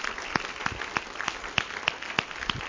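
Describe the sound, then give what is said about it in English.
A church audience gives a clap offering, clapping together in a steady, quick rhythm, about eight sharp beats roughly three per second, over a continuous wash of scattered hand claps. No one speaks. “Can you give him a great clap offering today?”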